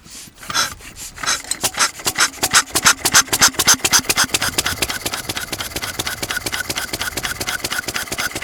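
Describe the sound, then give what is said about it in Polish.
A hand-cranked petrol engine with large flywheels, a museum collector's exhibit, turns over in three slow, uneven strokes, then catches and settles into a steady, rapid chugging beat, fairly loud, with no one speaking. “Trzy razy obrócone i już działa. No, to bardzo miękko startuje, tutaj duże koła zamachowe, które magazynują tą energię w ruchu.”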